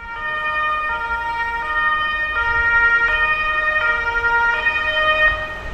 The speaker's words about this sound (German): Gabi rief den Krankenwagen. Der kam nach 4 Minuten an.